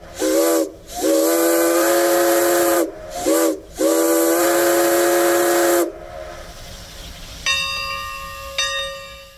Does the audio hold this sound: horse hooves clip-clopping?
no